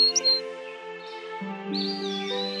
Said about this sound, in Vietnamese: Sáng hôm sau, Bạch Tuyết thức dậy khi tiếng chim líu lo và nhiều bạn thú nhỏ vây quanh cô.